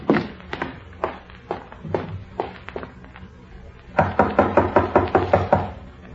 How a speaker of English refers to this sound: When there was no answer to their knocking, they opened the door and stepped into the room together.